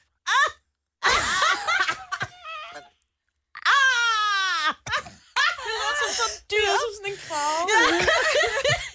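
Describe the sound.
A person imitates a penguin or sea lion call, pushing out all the air in their lungs, in a series of loud, strained, wailing vocal bursts separated by short pauses, with some laughter mixed in.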